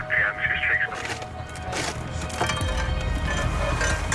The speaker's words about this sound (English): Can you force that door? Try and force that door open. Just see what.